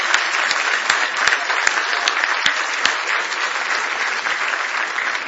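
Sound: audience hand clapping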